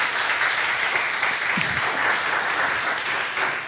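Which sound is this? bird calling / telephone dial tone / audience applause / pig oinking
audience applause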